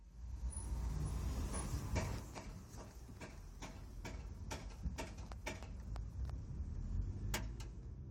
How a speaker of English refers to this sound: The car speeds up again.